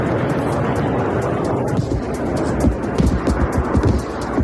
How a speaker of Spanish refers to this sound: Esto que escucha son los últimos bombardeos de la Fuerza Aérea Israelí contra lo que dicen que eran unos túneles subterráneos donde se esconden terroristas de Hamas en Han Yunis.